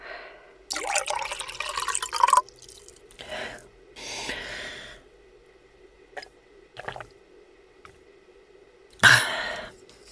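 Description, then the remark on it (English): Drinking water: liquid sloshing and a few wet swallows spread over several seconds, with a louder burst near the end and a throaty cough-like noise. No talking. “Take some water.”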